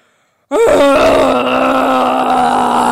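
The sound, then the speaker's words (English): After a brief silence, a voice bursts into a loud, sustained, groaning roar imitating a wet, bedraggled dragon whose fire has been put out by water from a fire hose, holding a steady mid-low pitch with a rough edge for over two seconds. “Roared the dragon, for his fire was quite put out by the water.”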